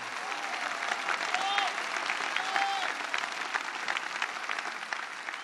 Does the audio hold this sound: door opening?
no